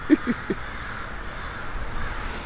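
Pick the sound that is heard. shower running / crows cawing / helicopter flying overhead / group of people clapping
crows cawing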